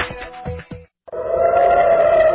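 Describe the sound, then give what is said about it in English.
An air raid siren wails in Israel, in Tel Aviv, after rockets were fired at the city. It holds a steady, sustained tone over outdoor background noise, following a few short sounds and a brief moment of silence. “The sound of air raid sirens going off in Israel after rockets fired at the populated city of Tel Aviv.”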